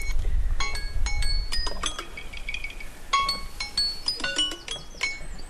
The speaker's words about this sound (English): Oh, that's the timer.